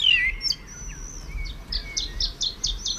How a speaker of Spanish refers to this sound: En la Isla del Hierro hay poquitas manchas de laurisilva y este es un mirlo. La laurisilva tiene una acústica especial, suena muy bonita, ¿no? Pero este es un mirlo joven que está como torpe aprendiendo a cantar. Va despacio.